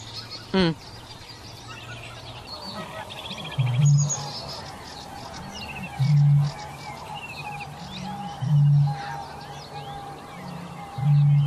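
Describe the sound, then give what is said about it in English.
A busy dawn chorus of many birds chirping, trilling and whistling at once, with a low, deep call repeating every couple of seconds beneath the bright overlapping song. “There's something really magical about hearing the birds sing at dawn.”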